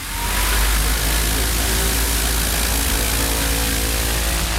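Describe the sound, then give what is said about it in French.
An electric airplane is started up, its propeller, the only source of noise, spinning up and quickly reaching a steady, loud whirring drone with a deep low hum and a broad rushing hiss, holding constant without any voices. “Mise en route de l'avion électrique sans autre bruit que celui de l'hélice.”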